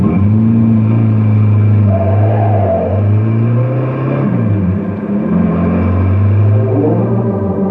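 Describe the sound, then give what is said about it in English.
A car engine revs loudly, its pitch climbing, dipping, then rising again as the vehicle pulls away under steady power, with no voices heard. “But I wish you'd keep this crate down to driving speed for a change.”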